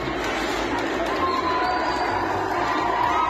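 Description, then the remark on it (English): A large crowd cheers and shouts together, a dense, steady roar of many voices with a few higher calls rising above, as female protesters disrupt a rally held in support of the Taliban in Bamyan province, Afghanistan, tearing down banners. “On April 4th, they disrupted a rally held in support of the Taliban, tearing down banners to the sounds of cheers and demanding that schools for girls be reopened.”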